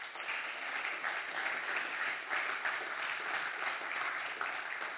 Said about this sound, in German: Vielen Dank, Applaus für euch.